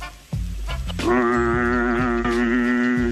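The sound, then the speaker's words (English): After a brief low rumble, a person with their tongue stuck out lets out one loud, sustained moan lasting about two seconds, steady in pitch with a slight waver and a nasal, cow-like quality. No talking. “Stick out your tongue and give me like a moan.”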